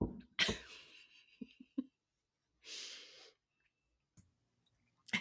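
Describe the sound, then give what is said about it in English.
A boy, the speaker's son, coughs in the background: a sharp burst, then a few quieter short coughs, followed by a breathy exhale and a couple of faint clicks. Nobody speaks. “Hold on, I'm going to tell my kid to stop coughing.”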